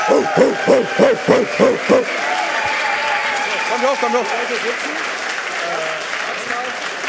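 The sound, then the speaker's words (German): An audience breaks into sustained applause for the WIM team, a dense wash of clapping that carries on for several seconds, with a few voices calling out and someone speaking briefly near the start. “So, dann eine Runde Applaus. Ein Applaus für unser WIM-Team.”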